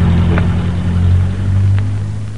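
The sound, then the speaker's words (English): A car engine drones steadily with a deep, loud hum, then begins to ease off slightly toward the end as the car drives past without stopping. No voices. “There goes another car past without stopping.”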